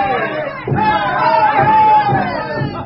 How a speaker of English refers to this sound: watched from the background as the shouting, chanting students paraded on Faculty Row.